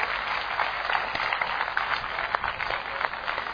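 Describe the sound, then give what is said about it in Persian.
A crowd applauds two participants after a game, clapping steadily for several seconds in a dense, even patter that holds at a fairly constant level throughout, with no voices standing out. “هر دو رو تشویق کنین، بشینین بگم چی شد.”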